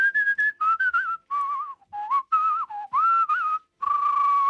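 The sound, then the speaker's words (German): A professional art whistler performs a flowing classical melody with vibrato and quick ornamented runs, the clear bright tone fairly loud, phrases separated by brief pauses. “Also er pfeift auf alles und jeden. Auf die Klassik.”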